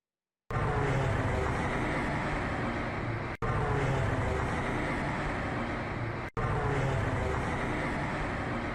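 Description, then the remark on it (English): A ram air turbine propeller, a small propeller that deploys when there is a hydraulic or other power failure, on a Boeing 787 as it crashes, gives off a steady, loud, rumbling whir like an engine drone. The same segment plays three times in a row, each break marked by a sharp cut. “what you're hearing is a small propeller which deploys on all planes when there is some type of hydraulic or other type of power failure”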